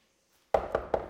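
Four firm knocks on a door in a quick, even rhythm, fairly loud, following a brief near-silence, with no voices present.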